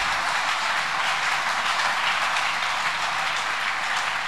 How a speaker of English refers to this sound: Put your hands together. Veuillez applaudir.